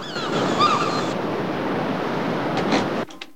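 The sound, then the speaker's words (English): A steady roar of ocean waves breaking on the shore fills the scene, with a few brief high bird cries early on as a seagull swoops and glides over the ocean, before the surf cuts off abruptly. “The next day, a seagull swoops and glides over the ocean.”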